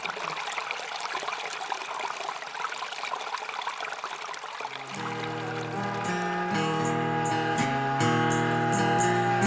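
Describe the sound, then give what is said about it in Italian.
A steady, full wash of rushing water from a steep waterfall fills the first half, and then tuneful music enters and plays over the continuing roar. “Davanti al bradipo e al serpente sembrava aprirsi una ripidissima cascata.”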